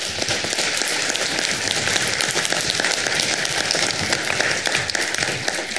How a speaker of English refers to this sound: Let's give one more final round of applause for all of our candidates that came this evening.